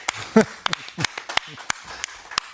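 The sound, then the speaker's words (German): Live audience applause at the Tattoo Expo 2023, thin and scattered: a dozen or so sharp, irregular hand claps over a couple of seconds, with voices briefly calling out underneath. “Applaus für euch, schön, dass ihr da seid.”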